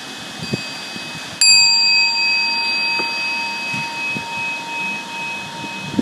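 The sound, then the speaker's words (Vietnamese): A small bell is set down as lids are closed during a Buddhist vow ceremony, giving a single bright clink, then a clear metallic ring that lingers and slowly fades. No one speaks. “Rồi chúng ta đóng nắp để xuống những chiếc chuông đất tay nội thế.”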